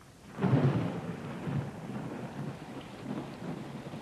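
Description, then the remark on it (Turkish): Heavy rain pours down in a steady, dense patter, with a low rumble of thunder swelling near the start and rolling on beneath the downpour. No voices. “Şakırtılarla yağan şiddetli yağmur dağı taşı rahmete boğdu.”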